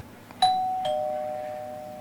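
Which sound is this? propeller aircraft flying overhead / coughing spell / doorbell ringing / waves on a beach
doorbell ringing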